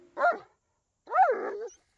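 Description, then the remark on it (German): A somewhat plump dog gives a short bark, pauses, then lets out a longer, rising-and-falling whimpering yelp that trails off, with no one talking. “Hunde lieben es, spazieren zu gehen.”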